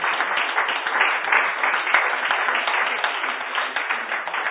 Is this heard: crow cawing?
no